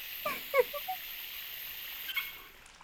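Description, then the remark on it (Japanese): Water runs in a steady, soft hiss as soap suds are rinsed off a man's body in the bath of a ryokan inn, with a few brief squeaky chirps near the start and again briefly later on. “よし、泡全部落ちた。”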